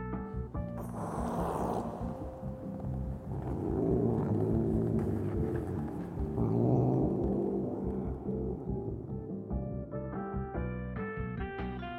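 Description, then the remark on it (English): A cat named Oscar, staring at a dark hollow near a hospital's basement windows, gives a low, throaty growl that rumbles steadily for about twelve seconds, swelling and easing in waves with a few higher moaning tones mixed in. No one speaks. “As Dan came closer, he heard a low growl come from deep within Oscar's throat.”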